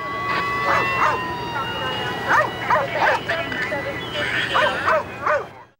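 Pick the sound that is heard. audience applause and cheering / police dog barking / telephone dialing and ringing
police dog barking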